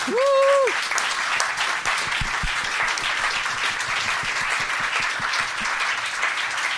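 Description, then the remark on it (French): A crowd applauds steadily for several seconds, dense overlapping clapping, opening with a short rising whoop or whistle from someone in the audience. “on peut l'applaudir.”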